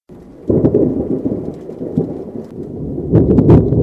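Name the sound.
thunder rumbling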